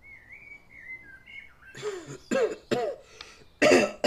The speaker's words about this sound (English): You're beginning to sound like your grandfather with all that coughing, Gemellus.